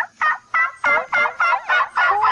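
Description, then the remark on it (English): A call imitating a turkey in heat: a rapid series of about seven loud, warbling, nasal bursts in a steady rhythm, each with a rough, throaty edge, with no talking over it. “This is turkey and heat right here.”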